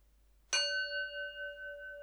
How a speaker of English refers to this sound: So now we're going to do a 20-minute guided meditation on compassion. It's going to start with three sounds of the bell.